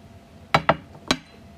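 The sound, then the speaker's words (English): Glasses of cola clink together three times in a toast: two quick bright taps, then a third a moment later, each ringing briefly, fairly loud. “Salud. Cheers.”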